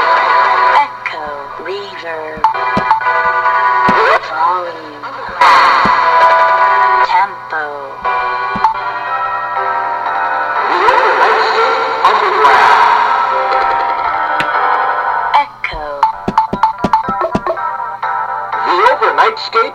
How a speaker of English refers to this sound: Oh, that's, yeah, that's kind of more normal, right? Reverb. A little bit of reverb, maybe.